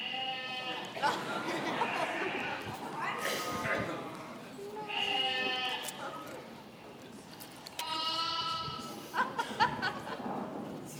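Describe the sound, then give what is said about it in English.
Sheep bleat repeatedly in a video being played, drawn-out, wavering cries roughly every few seconds, over a steady bed of muffled background noise and indistinct chatter. “That defines sheep right there.”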